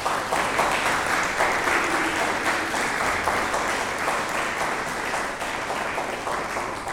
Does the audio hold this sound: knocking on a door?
no